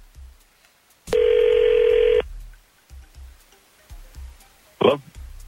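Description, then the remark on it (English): A telephone call tone as the 102.9 The Wolf radio morning show places a call: it sounds once, a loud, steady buzzing ring lasting about a second, followed later by a short sharp beep, with only faint low rumbles in between. “we're calling you this morning because a woman named Shannon gave us your number”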